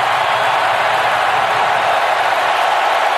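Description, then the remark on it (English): A huge stadium crowd in Seattle roars after a goal that stood when review found the scorer was not offside, a loud, unbroken wash of cheering noise that holds steady for a few seconds with no individual voices standing out. “And the building shakes in Seattle. Listen to that crowd.”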